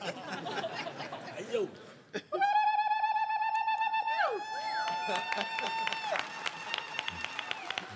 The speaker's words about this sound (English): And when she understood that, she started to ululate. Can you ululate, man? You try. That like big one, man.